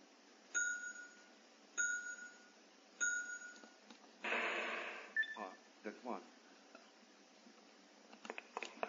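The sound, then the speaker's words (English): A bright notification chime for a new mail notification rings three times at steady intervals, clear, followed by a short burst of rushing noise and a few scattered clicks and knocks. “New notification from mail, YouTube.”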